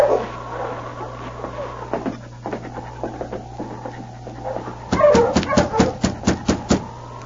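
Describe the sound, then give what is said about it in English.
A sled dog team, with a black lead dog, waiting out front whines and whimpers in rising, wavering cries, then breaks into a quick run of sharp barks over a steady low hum; several animals seem to call together. “There's a dog team out in front.”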